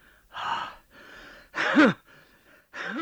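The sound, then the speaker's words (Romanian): Heavy gasping breaths, about four noisy inhales and exhales separated by brief pauses, two of them louder with a strained voiced catch, with no talking. “bătrân, ascultă, stai să respir.”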